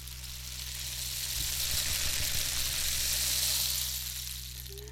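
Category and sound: sound effect, rain stick being played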